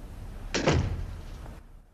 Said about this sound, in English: She closes the door.